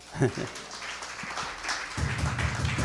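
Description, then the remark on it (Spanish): An audience applauds the Lord during a sermon, steady for a few seconds, a dense wash of clapping at moderate loudness, with voices and cheering rising underneath toward the end. “Aquí dale un aplauso al Señor.”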